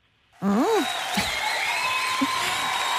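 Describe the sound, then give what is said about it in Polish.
A sudden burst of loud, sustained applause for a caller's very good answer on a call-in show, with a short cheer at the start and a steady bright tone sustained above the clapping. “Te brawa świadczą o tym, że to jest bardzo dobra odpowiedź.”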